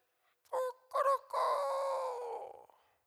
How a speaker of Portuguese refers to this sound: O galo cantou. Porque Pedro negou o Senhor Jesus.